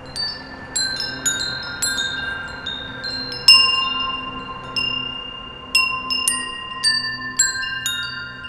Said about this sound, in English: walks along a stone pathway with one of his musically tuned wind chimes